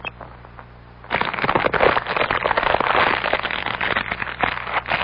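A fire crackles and pops steadily, a dense run of sharp snaps that starts suddenly after a quiet second and stays fairly loud to the end, with no voices.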